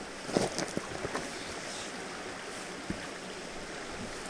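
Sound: flowing river water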